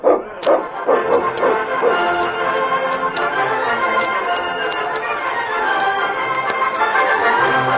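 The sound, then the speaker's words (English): A dog that has run a hard race that day barks and yips in quick, repeated bursts that run together, loud, with no talking around it. “My dog's had a hard race today, but he can still watch you.”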